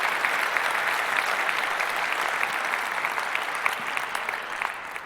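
A crowd applauds steadily, a dense wash of many hands clapping at an even loudness for the whole stretch, with no voices breaking through.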